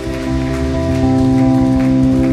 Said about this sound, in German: Vielen Dank für die Begrüßung, für euren Applaus.